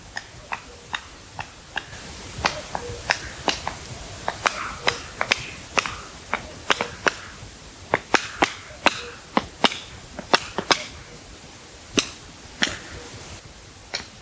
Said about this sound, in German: Und dann haben wir dieses typische Flügelknallen. Viele sagen, das ist ein Klatschen.